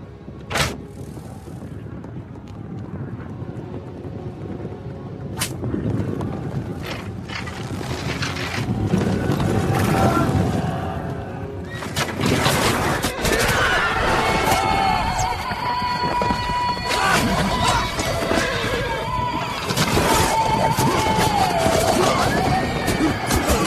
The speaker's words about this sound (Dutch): we hoorden hier heel veel pijlen vliegen. Ja, je hoorde eerst 1 pijl. Dat was de marker, zal ik maar zeggen. Dat was om te kijken van hoe staat de wind, hoe ver komen we.